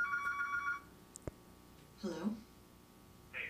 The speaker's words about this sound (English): Don't answer the phone.